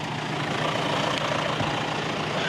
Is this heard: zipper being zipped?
no